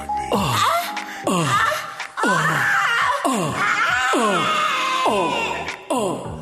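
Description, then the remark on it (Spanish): Several people deliberately let out loud screams on purpose, a string of about six shrieking bursts that each slide downward in pitch, edging into wailing and laughter-like cries. “Gritemos. Yo grito como un grito, como vieja.”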